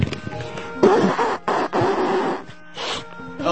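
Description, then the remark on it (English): Someone blows their nose in a few rough, breathy blasts, two longer honks followed by a shorter snort, fairly loud over a faint steady hum. “You want to blow your nose? Yeah. Why don't you do that?”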